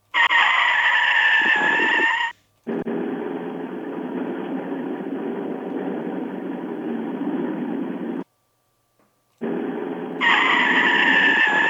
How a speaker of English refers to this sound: Sirens. That's a car screeching too.